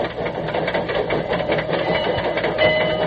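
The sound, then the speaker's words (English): The General, a steam locomotive built in 1855, clatters with its tappets in a steady, busy rhythm of mechanical tapping, with a constant hiss of steam from a little steam escape valve and a thin, high tone rising briefly near the end. “Hear that tappets? Little steam escape valve there.”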